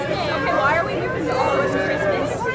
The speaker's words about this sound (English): Eager families crowd a dock outside the Charleston Maritime Center, happily chatting and checking the harbor for any sign of sails.